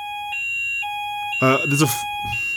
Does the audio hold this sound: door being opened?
no